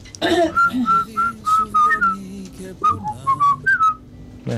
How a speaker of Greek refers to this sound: Να σφυρίξουμε κιόλας.